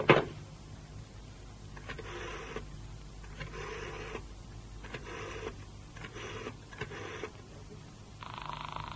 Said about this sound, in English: She's buzzing. She don't answer. Phone makes proper noise, but it's no use. Give it a man. That's the usual turn of the ringing signal.